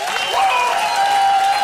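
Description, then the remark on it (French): Sustained audience applause welcoming Jean-Luc Mélenchon, a dense steady wash of many hands clapping at a loud, even level, with faint voices and a thin whistle-like tone riding over it. “Exclusive et sous vos applaudissements, Jean-Luc Mélenchon.”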